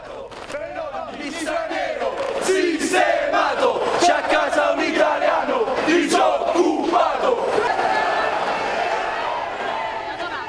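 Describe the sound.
A large crowd of fascist followers chants and shouts together in loud, rhythmic bursts, voices swelling and overlapping steadily for about ten seconds with sharp cheers punctuating the roar.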